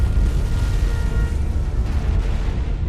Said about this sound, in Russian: Вектра все еще мигала сигнальным фонарем, подтверждая получение приказа, как до Улисса донесся грохот мощного взрыва.